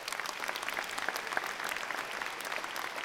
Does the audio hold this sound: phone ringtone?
no